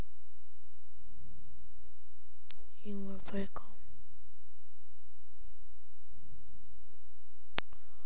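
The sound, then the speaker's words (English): A few sharp, dry clicks of teeth snapping together sound at irregular moments, with a soft, hushed voice speaking briefly between them. “Is it your teeth? Yes, it is.”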